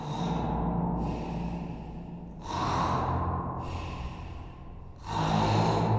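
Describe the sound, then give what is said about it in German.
A voice imitates the loud snoring of a sleeping policeman: three long, rasping breaths in a slow, steady rhythm, each rising into a rough, noisy rumble, with no other talking. “Das Schnarchen hören Sie schon von Weitem. So lautet es.”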